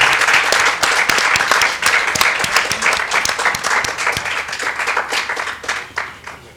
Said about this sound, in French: Ils méritent bien qu'on les applaudisse, s'il vous plaît, faites-leur une ovation.